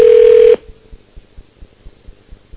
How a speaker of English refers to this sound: We'll go to voicemail, and you can leave him a message. 5 rings. Oh, all right, there. There's the beep.